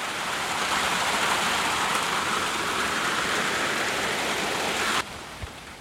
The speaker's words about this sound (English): And I said, okay, this last one, these guys aren't happy, huh, with the rain, indoor rain.